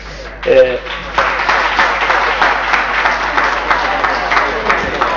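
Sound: audience applauding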